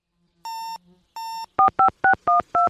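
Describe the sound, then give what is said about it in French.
Two longer electronic beeps are followed by five quick, evenly spaced dual-tone keypad presses as a woman dials a satellite phone to call a friend, clear with no voices. “sur son téléphone satellite, elle appelle Vigli, une copine qu'elle s'est faite pendant la préparation de son exploration”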